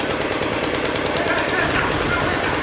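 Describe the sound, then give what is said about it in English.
Heavy, sustained gunfire from several weapons at once as a suicide car bomber tries to break through, with rapid overlapping bursts forming a dense, continuous roar of shots that stays loud throughout. “Gunfire erupted.”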